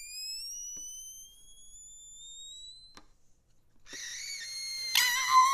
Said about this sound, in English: And you're listening to Etude No. 2 for Balloon and Violin. Now, I'm not going to play much of this because it'll drive the cats and dogs across America out into the streets